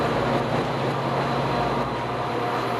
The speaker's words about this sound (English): Usually, you take the train to get to a particular destination, but today, I'm riding just for the fun of it. I'll go up the coast a bit, sleep on the train, then turn around and catch the first train home again.